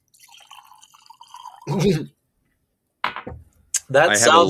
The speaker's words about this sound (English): I'm drinking whiskey. Yeah. He's got a giant bottle of whiskey. I'm just going to pour it right.